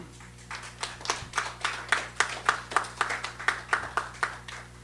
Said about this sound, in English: Thank you for clapping. It allows me to drink more. And it looks like I'm being polite.